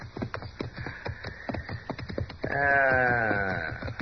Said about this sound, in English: Yeah, horses. Two of them. Oh, sure. They wouldn't be in there otherwise, would they? No, not likely. Hey, those aren't range horses, either.